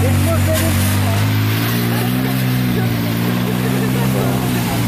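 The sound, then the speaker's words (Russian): A loud, steady motor drone with a low rumbling hum fills the whole stretch, the pitch shifting slightly partway through, as many small cars drive in right-hand traffic on a street in Fort-Louis on a Caribbean island. “Много маленьких автомобильчиков.”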